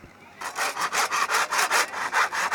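A machine saw cuts through wood for a game board in a steady back-and-forth rhythm, about ten quick rasping strokes, fairly loud, with no voices after a brief quiet start.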